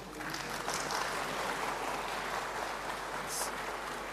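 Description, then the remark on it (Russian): An audience at a church conference claps steadily for several seconds in thanks to the organizers, a dense, even wash of many hands applauding together, sustained at a fairly consistent level without anyone speaking. “Я не знаю, как у вас не принято аплодировать, но как-нибудь вы скажите им спасибо, хорошо?”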